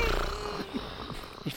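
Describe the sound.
A voice imitates snoring with a few low, rasping snorts repeated at a steady rhythm, each a short throaty grunt with soft breathy noise between them.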